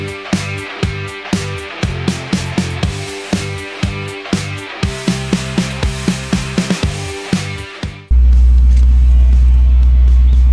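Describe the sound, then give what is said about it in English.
A classic truck cruises at 70 mph on the interstate, heading to a classic truck event, its cab filled with a steady, loud low rumble of road and engine noise for the last few seconds, after a stretch of rhythmic music with a strong beat. “but we've been going 70 the whole way.”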